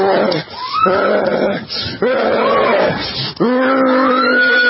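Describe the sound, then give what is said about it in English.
A person growls and snarls like a rabid dog while chasing a woman down a dark street at night, in several loud bursts with short breaks between them, the guttural rasps rising and falling in pitch. “Because nothing proves you're normal more than chasing women down dark alleyways while making growling noises like a rabid dog.”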